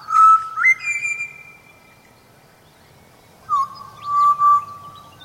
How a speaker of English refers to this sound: proof all the more that these pied butcher bird songs are music